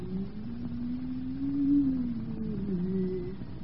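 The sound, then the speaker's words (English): A hand-cranked machine, the cause of the 'whistling walls' in a chateau, gives off a steady, low whistling moan that wavers gently in pitch, swelling slightly midway and then sinking, continuous for a few seconds with no voices. “And the whistling walls. What caused them? This machine. I'll turn the handle.”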